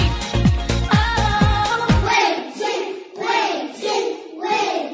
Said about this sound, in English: As they stand and applaud and cheer ….